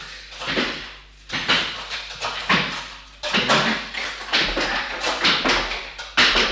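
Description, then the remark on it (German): The studio door at Handradio Zürich opens as a World Cup winner comes in, amid a series of clunks, rattles and scuffing bursts, irregular and fairly loud, with no one speaking. “Und er ist schon unterwegs. Doch, er kommt zur Tür.”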